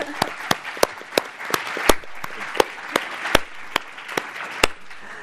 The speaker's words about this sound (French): Son équipe, oui, les applaudissements sont bienvenus. Son équipe, voilà.